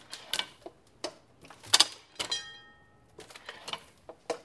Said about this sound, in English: And you know, it doesn't have to be there. The ding, ding, ding is just sweet. It's just a little extra. It's not necessary to the operation of the press. And it's this beautiful little piece back here that's hitting. It's a pretty simple mechanism.